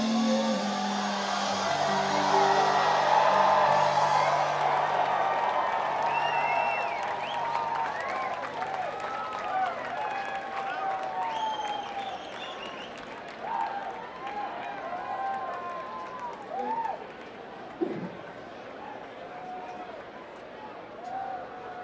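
An audience applauds steadily for about twenty seconds, loudest in the opening seconds and then settling into a sustained, even clapping, with scattered cheers and whistles rising above it.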